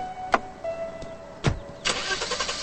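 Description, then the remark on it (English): A couple of sharp thumps, then a car engine cranks to life and keeps running steadily, with no talking. The car then heads off past kids at an ice cream truck. “Her sad brown eyes follow David's car as it heads off past kids at an ice cream truck.”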